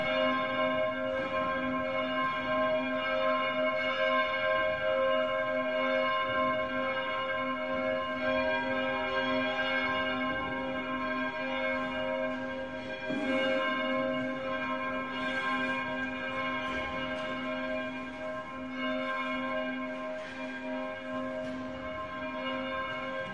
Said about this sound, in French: Et ainsi, tout au long de la journée, rythmée par le son des cloches, la vie des sœurs, en apparence identique et pourtant toujours renouvelée, alterne prières et louanges, études et travail.